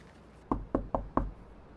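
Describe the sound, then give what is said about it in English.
Four quick, solid knocks on the wooden front door of a house, evenly spaced in a brisk rhythm, with a dull thud to each rap and quiet background before and after. “he nevertheless parked his car in the gravel drive, grabbed a bouquet of store-bought flowers, and walked up to the front door, giving it a knock.”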